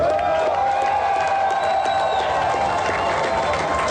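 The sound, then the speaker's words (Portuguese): A large crowd applauds and cheers to congratulate Bolsonaro on his campaign, a loud, continuous wash of noise for four seconds, with sustained high whistle-like tones riding over the dense roar. “Aplaudir e felicitar Bolsonaro também com uma bonita campanha.”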